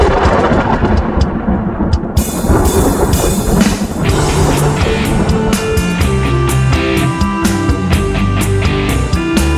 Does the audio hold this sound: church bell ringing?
no